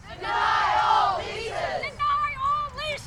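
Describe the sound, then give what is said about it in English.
A protest crowd at an outdoor rally outside the offices of the Ohio Department of Natural Resources in Columbus, Ohio, holding signs and singing songs together, loud and sustained with wavering, melodic pitch, then thinning toward the end into a few higher voices carrying the tune. “A crowd gathered for a rally outside the offices of the Ohio Department of Natural Resources in Columbus, holding signs and singing songs.”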